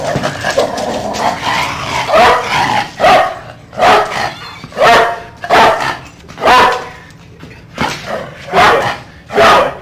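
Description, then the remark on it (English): Ivan, a police dog, barks loudly, a rapid series of about a dozen sharp barks in a steady rhythm with no one talking. “Coming up new on the Fox 25 News at 10 and 11, we're going to introduce you to Ivan, the police dog who caused the gun to go off.”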